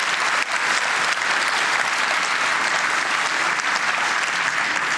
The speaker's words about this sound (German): Wo ich auch erstmal sagen würde, Applaus, Applaus, Applaus.